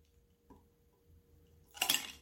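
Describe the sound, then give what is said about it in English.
Liquor being poured into glasses as doubles for two: a short burst of liquid splashing into a glass with a bright glassy clink, after a quiet stretch with a faint tap; no voices. “And I'm pouring us both doubles.”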